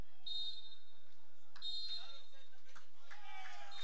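A referee's three final whistle blasts end a football match, Le Puy winning 3-0 against FC Versailles on its pitch in Versailles, short, shrill, high-pitched blasts over a loud, roaring crowd, with cheering swelling toward the end.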